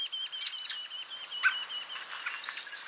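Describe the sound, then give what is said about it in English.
An American robin delivering caterpillars to its fledglings chirps in a quick series of bright, high calls, clear over a faint hiss of background, with no talking. “This robin is making a delivery of tasty caterpillars to its fledglings.”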